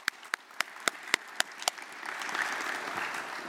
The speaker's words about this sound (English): Thank you so much. Big round of applause.